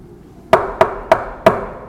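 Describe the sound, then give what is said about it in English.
Four sharp knocks on a door at night, slightly uneven in spacing, each a hard wooden thud with a quick decay, over a faint low background hum. “You hear that. Are you going to run open the door?”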